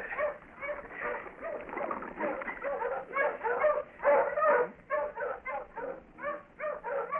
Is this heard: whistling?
no